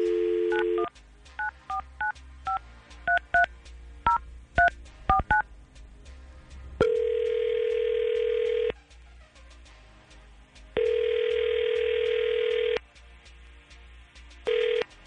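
A burst of rapid touch-tone dialing beeps, followed by a phone ringing twice in long, steady electronic rings with pauses between, then a brief final ring tone starting, as the 995 QIK radio show calls a listener.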